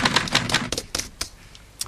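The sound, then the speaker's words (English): Quick, uneven typewriter keystrokes clatter, a burst of sharp clacks that thins into a few scattered strikes before a final snap, with no voices. “Ah, that's a typewriter.”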